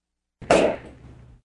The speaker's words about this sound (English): And then my favorite sound effect material to use is kitchen gloves. Kitchen gloves? What kind of sounds do kitchen gloves produce? If you blow up and then pop a kitchen glove, it sounds like a real but mild explosion.